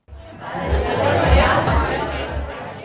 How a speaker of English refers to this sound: In New York, a crowd of models, fashion designers, cosmetic executives, and others gather for an event in the city's chic Soho district. But this event has nothing to do with the latest styles, trends, or fads.